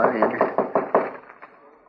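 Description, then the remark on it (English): A quick, evenly spaced run of about six knocks on an unlocked wooden door, fairly loud, the last raps trailing off softer. “Well, come on in.”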